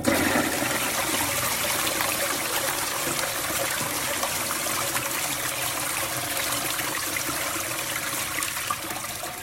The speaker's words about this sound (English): The flush of the toilet. I thought the flush of the toilet went on just a bit too long.